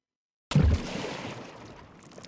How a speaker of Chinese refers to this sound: 然后伴随着河水飞溅声，我跳进了肮脏的河里。